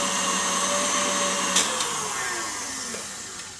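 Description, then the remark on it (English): An electric mixer whirs steadily as it whips cookie dough, a continuous high motor hum with a slowly dropping tone and a few faint clicks of the beaters, with no voices. “Another spin on this. Just want to get those ribbons slightly thicker. But I don't want to over whip.”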